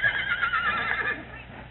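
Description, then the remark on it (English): A horse whinnies loudly in one long, shrill, quavering call that wavers in pitch and then trails off, with no voices over it. “Now I got to go home and fill up some water in the pasture for them horses.”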